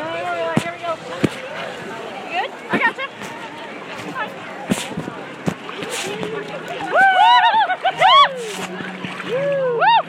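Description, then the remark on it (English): Irregular splashing and sloshing of water as someone wades into cold water, with sharp sloshes scattered throughout. Voices chatter and let out rising exclamations over the splashes, growing louder toward the end. “All right, cold water.”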